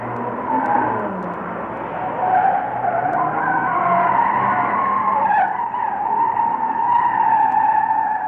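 Tires squeal and skid continuously for several seconds over a roaring car engine, a loud, sustained screech with shifting pitch like a high-speed car chase, with no one talking.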